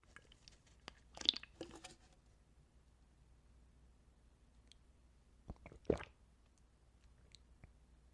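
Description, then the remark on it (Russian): Someone takes a couple of quiet sips of coffee, short wet slurping sounds separated by a few seconds of near silence, with faint mouth noises and no talking. “Какой кофе вкусный, оторваться не могу.”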